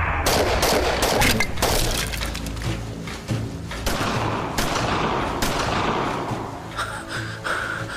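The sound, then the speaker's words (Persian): Sustained gunfire with rapid bursts of shots and sharp cracks layered densely over several seconds, loud, no speech. “وقتی گلوله ها تموم شد میخوای چی کار کنی؟”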